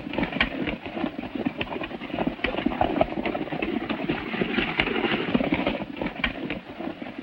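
horse galloping hooves

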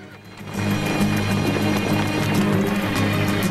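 horses' hooves clip-clopping

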